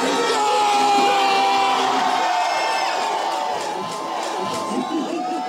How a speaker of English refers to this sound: He comes back and he had, I think, a crowd of 4,000 people there. There's a lot of Chiefs fans there.